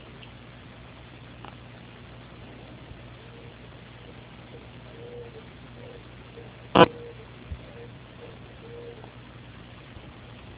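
An owl calls faintly, a series of soft, low hoots spaced over several seconds against a steady background hum, with one sharp click partway through.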